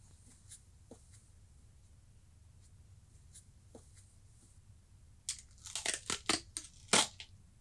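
Duct tape is ripped off the roll in a quick burst of loud, crackling tears, following a few seconds of faint scattered ticks; no one speaks.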